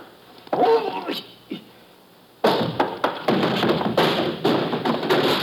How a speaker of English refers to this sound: You are asking me to throw my shoes across the warehouse? Just to distract our friend's attention for a moment. Give me time to start that barrel rolling.